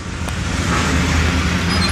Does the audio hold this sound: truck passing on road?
yes